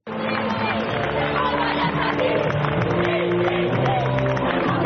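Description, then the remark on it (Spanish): The Burela women's futsal team, league and cup champions, chants its battle cry together: many voices shout in a loud, steady unison that runs the whole length without a pause, over a rough crowd-like babble. “Pues ese era el grito de guerra de las nuevas heroínas, no solo de Burela, sino también de todo el fútbol sala español.”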